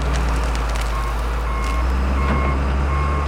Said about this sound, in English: But right now, a tractor is pulling the tart cherry trees from his orchard.